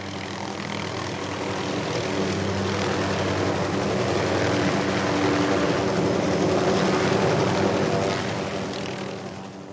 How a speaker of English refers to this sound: 10 minutes later, a helicopter landed and took us to the town centre.